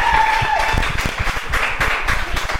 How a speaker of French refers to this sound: 10 points. 10 points, on applaudit.